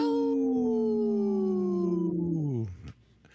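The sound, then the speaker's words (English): A person with a cold after COVID imitates a wolf howl: one long, sustained, wavering vocal tone that slowly falls in pitch for over two seconds, then drops off abruptly into a brief rough trailing breath. “We have my howl's a little weak here with my cold after COVID here.”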